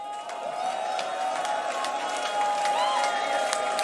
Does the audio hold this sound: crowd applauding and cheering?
yes